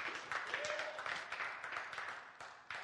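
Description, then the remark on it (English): A church audience claps together during a sermon in a dense, steady wash of applause lasting a few seconds, with many overlapping hand claps and no clear voices on top. “You can clap for that.”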